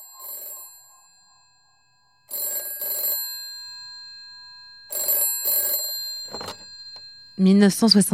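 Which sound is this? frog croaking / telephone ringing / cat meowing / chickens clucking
telephone ringing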